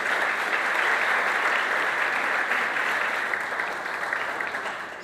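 A live audience claps steadily, a dense, continuous wash of applause that stays fairly loud throughout and tapers slightly near the end, with no voices over it.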